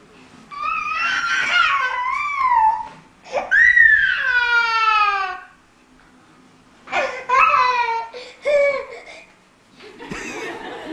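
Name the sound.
child crying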